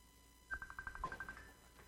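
A phone rings once with a short, rapid electronic trill of quick repeating pulses, clear, then falls quiet with no talking over it.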